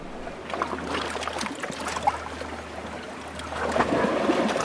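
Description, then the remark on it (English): A boat motors steadily across the waters of Paterson Inlet to Ulva Island before dawn under a cloudless, starry sky with moonlight, its low engine drone running continuously beneath the hiss and slap of water washing along the hull, fairly loud, with no voices. “I arrive by boat in the hours before dawn, under a cloudless sweep of stars, with moonlight dancing on the waters of Paterson Inlet.”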